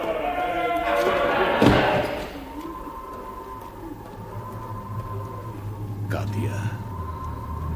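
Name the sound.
door slamming shut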